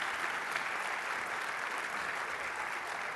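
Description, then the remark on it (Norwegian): An audience claps for panel members coming up to take their seats, a dense, even patter of many hands at a constant moderate loudness for about three seconds, with no voices standing out. “Gjør det. Gi en klapp.”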